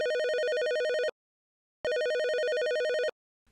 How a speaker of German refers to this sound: ist gerade dabei, für sich und ihren Freund einen Videoabend vorzubereiten, als ihr Telefon klingelt.